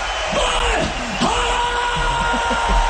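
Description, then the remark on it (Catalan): Loud shouting and yelling from a crowd of voices, dense and continuous over a roaring, noisy background, with a few sharper cries rising out of the din. “Això són crits, eh?”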